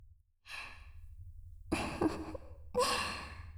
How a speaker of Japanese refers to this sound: シャンプーの泡立つ音、間違いなく心地よくお耳に響くはず。